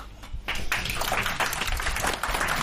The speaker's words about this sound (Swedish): Applåder där